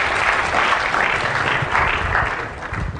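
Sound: round of applause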